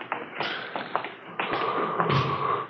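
A door opens at 2 a.m. as Thad Brown, the chief, comes in: a few soft taps and thuds from the handle and frame, a faint creaking tone and a brief rush of room noise, with no one speaking.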